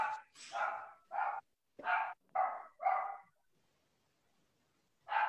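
Dogs bark excitedly in a rapid run of about six loud barks, then fall quiet for a couple of seconds before one more bark breaks out.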